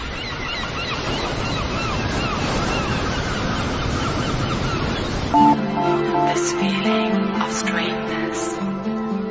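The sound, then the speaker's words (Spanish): Broad, steady roar of sea surf washing in, then from about five seconds a chorus of honking and calling birds rises over softer wave noise, continuous with no talking. “Wow, ¿a quién no le encantaría poder estar ahí frente al mar, escuchar a los pájaros, ¿no?”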